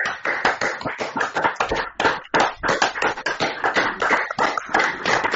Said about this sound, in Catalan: Doncs ho demanava el primer tinent d'alcalde, aquests aplaudiments dels regidors i regidores del consistori en aquest moment pels serveis sanitaris.